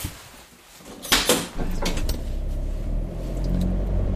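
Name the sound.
car driving off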